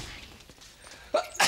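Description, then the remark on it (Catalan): After a brief hush, a sharp sneeze bursts out in two quick, loud pulses, with no talking around it. “Salut!”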